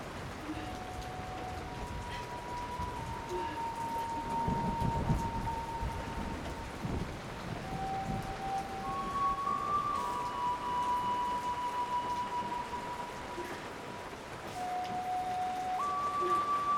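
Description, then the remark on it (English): Heavy rain pours steadily outside a bedroom window, a dense continuous hiss and patter at fairly even loudness, with a faint wavering tone behind it. “Tears shine on her pale cheeks as the rain pours outside her window.”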